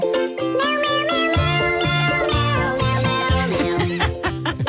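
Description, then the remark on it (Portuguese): A bouncy pop tune from a children's game about a cat eating stars, with steady bass and chords, its lyrics replaced entirely by high-pitched cat-like meows, repeated rhythmically throughout at a loud, even level. “Então, aqui nos Estados Unidos há um jogo para crianças em que eles substituem a letra da música por miau miau.”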